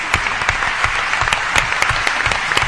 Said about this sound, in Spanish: Vamos a dar un aplauso a los amigos.